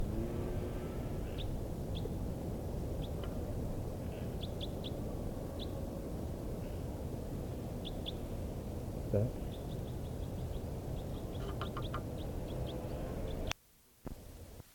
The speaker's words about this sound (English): I'm on the dunes and I hear type 4 birds flying over. Must be two or more birds. I don't see the birds. Just flew over. So recording again at Honeyman, and I continue to hear type 4 birds.